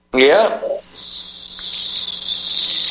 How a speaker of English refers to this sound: I was just trying to pipe down my little Piper bird No, don't you worry about that bird. That's almost. She can be our mascot. No, the bird can be the whistleblower.